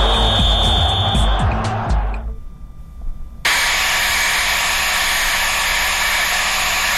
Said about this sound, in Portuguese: Que é isso, meu Deus? Olha, você tá procurando aí um bom secador para comprar? Secador de cabelo? Olha, aí ó, isso é bom, hein?